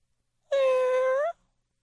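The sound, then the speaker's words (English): A single drawn-out meow, made by a human voice imitating a cat, loud, with a slight upward lift at the end before silence. “That was eerily cat-like right there.”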